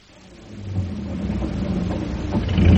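car engine driving

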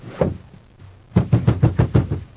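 pounding on a door

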